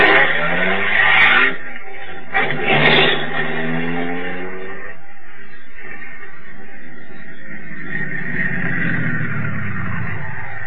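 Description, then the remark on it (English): A car engine roars and revs hard, tires squealing briefly, then the motor's pitch climbs and settles into a steady drone as the vehicle speeds off, loud throughout. “Blast, another car coming.”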